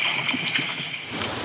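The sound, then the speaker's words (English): Rough sea water churns and sloshes around a small rowing boat in a hurricane, a steady, dense rush of spray and heavy waves with no voices. “a small parachute that drags underwater to keep his boat stable and pointed into the wind and waves in heavy seas.”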